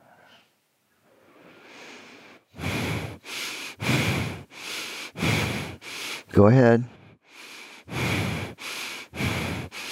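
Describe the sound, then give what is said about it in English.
Loud, forceful breaths pushed in and out through the nose in a quick, steady rhythm, about a dozen sharp bursts, with a brief spoken interjection partway through; a rapid-fire belly-breathing exercise driven by the lower abdominal muscles. “In and out through the nose. Belly breathing.”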